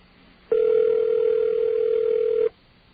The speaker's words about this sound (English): Calling George Bush's press line. Yeah, this line is almost always busy. I can't believe it's ringing. In a way, I'm kind of honored to have gotten through this time. Listen to that.